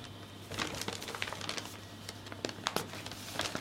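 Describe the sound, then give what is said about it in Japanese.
Crisp, irregular paper rustling and crinkling as a large paper bag delivered from Bon Voyage is handled and opened, fairly quiet, with a faint steady hum underneath and no talking. “さあ今年も大きい紙袋が届きます。”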